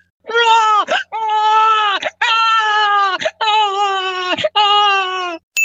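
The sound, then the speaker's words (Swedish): A person's voice imitates a crying baby: four or five long, loud, wavering wails in quick succession, each broken by a short gasp, unaccompanied. “Jag har en väldigt så här användbar dold talang. Jag kan gråta som en baby.”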